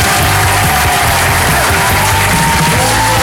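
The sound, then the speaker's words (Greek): A loud applause sound effect: a dense, steady wash of crowd clapping mixed with cheering and shouts, sustained without a break for about three seconds, with no talking over it. “Είναι λίγο, κάτσε να βάλουμε λίγο ένα χειροκρότημα.”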